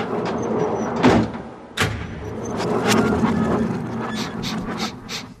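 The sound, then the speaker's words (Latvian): A heavy radio archive door is pushed shut with a solid thump, then pulled open again, followed by a few sharp latch clicks and rattles, with no one talking. “Zini, aizvērsim un atvērsim radioarhīvu durvis vēlreiz.”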